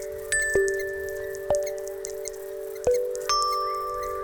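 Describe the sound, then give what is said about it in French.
Cartoonish mouse squeaks: a handful of thin, high-pitched chirps and little tonal blips arrive at uneven intervals over a steady ringing tone, moderately loud, with no talking. “c'est la souris, évidemment. Moussa peut enfin commencer à rêver, mais il entend toujours du bruit.”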